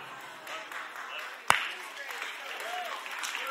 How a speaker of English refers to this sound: I'm worried because I pay you to clap and you're the only one clapping.